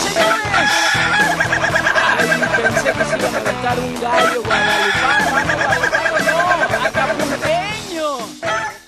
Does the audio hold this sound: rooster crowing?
yes